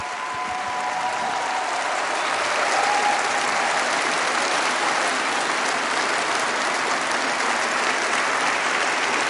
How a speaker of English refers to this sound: A round of applause from the audience as he makes a joke that he was a Jeremy Corbyn era member of the party.